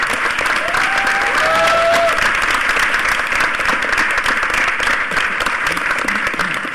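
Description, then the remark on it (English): A crowd at a conference session applauds steadily and loudly for several seconds for the volunteers, security and AV staff, a dense wash of clapping with a few brief whistles rising over it early on. “Yeah, can we, and I know I always do this, but can we give a round of applause to all the volunteers, all the security, the AV?”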